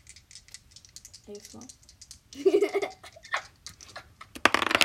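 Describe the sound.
Dice rattle and clatter in a quick burst of sharp clicks, with brief bits of voice and a giggle mixed in before a final scatter of taps.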